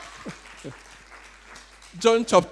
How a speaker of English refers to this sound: Let's clap for him.